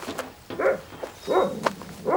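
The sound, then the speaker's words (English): A vicious dog barks repeatedly, three sharp, loud barks spaced roughly half a second apart, each with a harsh, growly edge and a faint whine between them. “That dog is vicious.”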